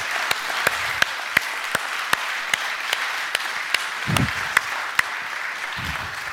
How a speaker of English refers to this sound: Let's just clap for the Lord because he is so worthy.